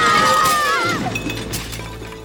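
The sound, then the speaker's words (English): Dishes crash and shatter in a loud burst, with bright ringing shards and tinkling fragments that scatter and fade over a couple of seconds. “Oh, my dishes! My glitter! It's everywhere!”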